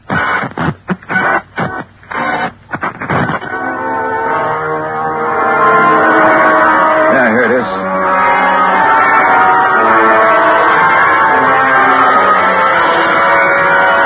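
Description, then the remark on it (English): A brief spoken line, then a record on a turntable plays the death scene from the opera Dolorima by Vingetti: loud, sustained operatic screaming with wavering, vibrato-laden pitch over a thin, muffled orchestral backing that continues to the end. “The screams that Walker and his wife said they heard. And that record's what gave him the idea.”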